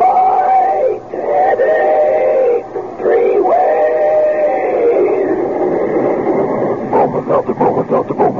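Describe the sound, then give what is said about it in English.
A steam train whistle wails in long, loud, wavering blasts, then gives way to quick rhythmic chugging puffs as the engine gets going. “Meanwhile, here's a friendly tip from an old pal, our famous talking Bromo Seltzer train.”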